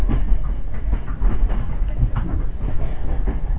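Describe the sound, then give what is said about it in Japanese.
A local train rumbles along the rails at Omiya Station in Japan, a steady heavy roar with faint rhythmic clacking of wheels over track joints, continuous throughout with no voices. The train goes out of service after it arrives. “この電車到着後、回送電車になります。”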